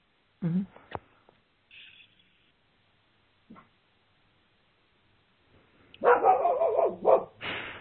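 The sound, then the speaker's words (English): A caller's dog barks in scattered bursts, a few short, sharp yaps early on, then a louder run of rapid barking near the end. “Your dog like that.”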